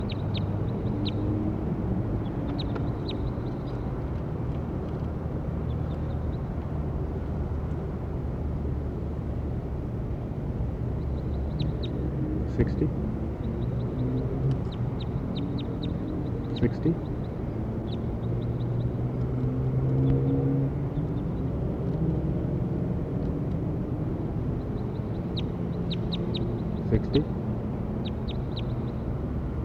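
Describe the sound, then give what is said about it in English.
Outdoor field recording of short, high bird chirps scattered in small bursts over a steady low rumble of traffic or engine noise, with no voices. “recording bird 60.”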